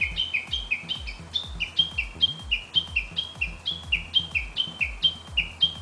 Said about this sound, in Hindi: सिशवा Bush warbler नामी इस चिड़िया की आवाज पहली बार एक स्वीडिश तहकीककार ने 20 साल कबल सुनी और अब उसके डीएनए, कलर और साइज के जायजे के बाद उसे नई नस्ल करार दिया गया है।